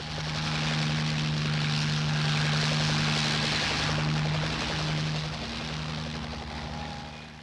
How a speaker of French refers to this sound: Les blessés sont évacués au moyen d'hélicoptères Sikorsky.